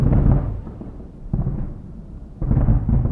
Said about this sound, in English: I arrive home to the sound of fireworks.